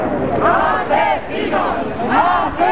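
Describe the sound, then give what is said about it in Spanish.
A large anti-war protest crowd, part of historic peace marches of millions of people, chants 'no to the war' in unison, loud voices rising and falling in a steady repeated rhythm, each phrase returning roughly every second over a constant roar of many people. “donde millones de personas en históricas manifestaciones gritaron no a la guerra.”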